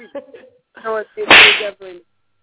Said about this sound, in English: Get your sound effect out. Whoosh.